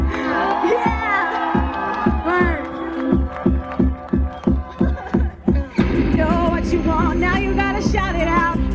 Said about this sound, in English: How about I just wait to the chorus? How about you guys just cheer for us?